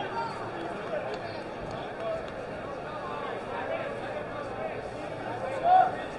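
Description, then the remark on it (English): Steady murmur of a large crowd at a baseball stadium, with scattered individual voices calling out and one louder, rising shout near the end rising above the babble. “This is right about when you'll hear those individual voices from the crowd.”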